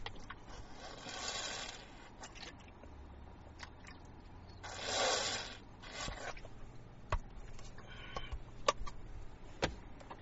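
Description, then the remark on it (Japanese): Someone handles a Brita water filter pitcher: two brief scraping, rushing bursts with scattered plastic clicks and taps in between, fairly quiet, with no talking. “ブリタの水失礼しました。”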